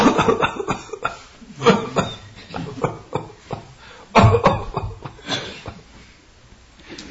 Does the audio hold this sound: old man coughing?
yes